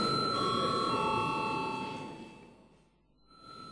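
parliament chamber bell

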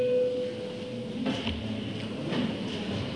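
parliament voting bell signal

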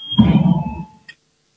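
parliamentary voting bell ringing

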